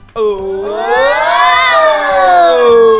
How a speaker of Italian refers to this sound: Io direi un boato per gli Alcantara.